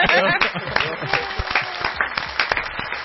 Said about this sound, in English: And I would like to give them a round of applause for the hard work.